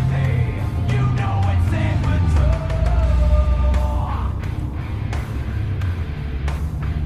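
A car drives steadily along a reopened road, its engine and tire rumble loud and continuous, with occasional clunks and a faint wavering tone drifting over the low drone.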